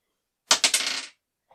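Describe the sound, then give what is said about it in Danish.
A small amber die, a souvenir bought in Gdansk, is rolled across a hard surface and lands on a one: two sharp knocks, then a quick rattling tumble that settles after about half a second, followed by a faint final tick. No one speaks. “Og en til etter.”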